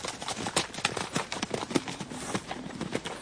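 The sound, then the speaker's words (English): Horse hooves clip-clop in a quick, steady rhythm, a continuous run of sharp knocks at moderate loudness, heard alone with no voices. “Mind your horses, and let's a war.”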